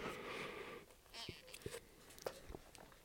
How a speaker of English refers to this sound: Let me grab a sip here of my drink, and I'm going to say that again.